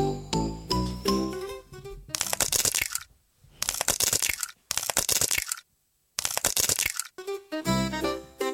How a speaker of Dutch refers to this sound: Het eerste geluid dat je hoort is van een ei dat uitkomt. Dus luister goed hoe vaak je het ei open hoort gaan.